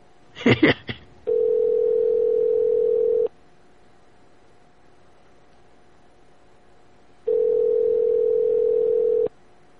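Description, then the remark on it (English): A quick jumble of clicky dialing tones as a call is placed to the Turkish Kitchen restaurant, then a steady, low telephone tone that sounds for about two seconds, goes silent, and returns once more for another two seconds. “let's call someone who might be mad from the beginning, our good friend the Turkish horse.”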